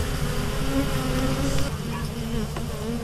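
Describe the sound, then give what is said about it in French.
A dense, steady hum of many honeybees buzzing around an open hive, a continuous droning swarm that fills the whole stretch without pause, with no voices. “je crois que j'en ai assez vu là maintenant parce qu'elle commence à s'exciter de nouveau”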